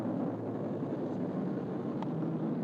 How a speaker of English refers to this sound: You know, if I open my door, the choppers will sound even louder. I have my door closed. And I'm in my room, and still they sound like they're right on top of you.